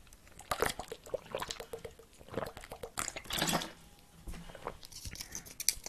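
Quiet sounds of someone sipping water, with soft wet gulps and small mouth clicks in an irregular rhythm and no talking.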